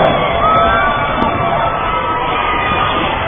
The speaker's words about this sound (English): And the Tudor Lake girls and their fans are cheering now. The first lead in this half.